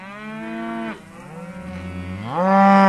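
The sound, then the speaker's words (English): A cow moos in long, drawn-out calls, loud. One moo fades, a lower groan follows, then it swells into a louder, higher bellow. No one speaks. “You probably don't know this, but during my career as an NPR reporter, I've tried to make cows my audio trademark and put them as many stories as is feasibly possible, like my very latest one, for example.”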